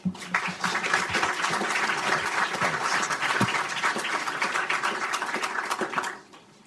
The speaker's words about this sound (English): Therefore, without further ado, please join me in giving them a warm round of applause to moderator Ed Luce and the participants of today's first panel on the future of Europe.